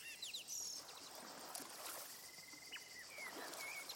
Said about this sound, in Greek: Ακούς τα κύματα της θάλασσας όπως απλώνονται και υποχωρούν, λιένοντας την ακροθαλασσιά.